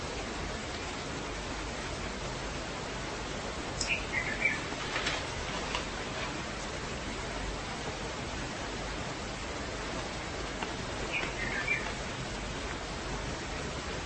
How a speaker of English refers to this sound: Birds singing in our window.